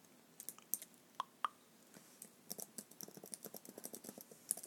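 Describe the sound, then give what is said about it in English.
Rapid, irregular clicks of laptop keys and a trackpad as someone looks things up online, sharp and fairly quiet, with a couple of louder taps early on and a busier run of clicks toward the end. No one speaks. “You can hear me like clicking.”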